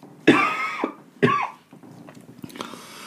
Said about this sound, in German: Entschuldigung, jetzt muss ich mal husten.